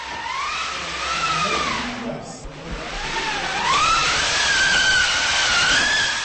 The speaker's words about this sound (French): nous montre un objet étrange, un rouleau avec manivelle à l'aide duquel, comme elle le révèle, on imitait le vent dans ce théâtre.